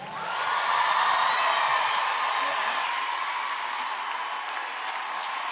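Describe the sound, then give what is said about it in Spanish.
Sustained audience applause for a live band after a song, a dense, steady wash of clapping that swells in quickly and holds loud for several seconds, with a few faint whoops mixed into the crowd noise. “Un aplauso para ustedes, muchachos.”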